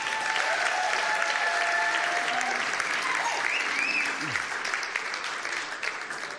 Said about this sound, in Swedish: Hörrni, ska vi inte ge ert underbara lovsångsband en varm applåd?